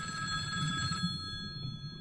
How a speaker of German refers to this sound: Da klingelte das Telefon und riss Merle aus ihren Gedanken.